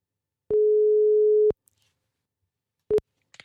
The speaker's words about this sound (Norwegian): Ja, og... nå han I Trondheim. Vi ringer Steffen.